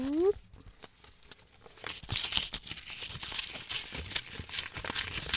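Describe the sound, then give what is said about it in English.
Paper tearing and rustling as an unopened mail envelope is ripped open, a steady crackly stretch of several seconds that starts after a brief pause and a short vocal sound. “Like, I don't have any unopened mail is the problem. Here, I can. Oh, I have it. I can open it and then send it to you through.”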